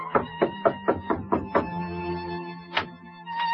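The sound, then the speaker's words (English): A quick series of about seven firm knocks on a door in an even rhythm, then a steady humming tone lingers with a couple of softer thuds afterward. “Just knock on the door, monsieur.”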